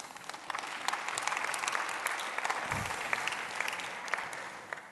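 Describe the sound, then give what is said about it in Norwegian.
Steady applause from an audience in Philadelphia for students of the Høyskolen for ledelse og teologi attending that evening, a dense patter of many hands clapping at an even level throughout, with a brief low thump partway through. “Og her finnes noen studenter I kveld, og så gi de en applaus.”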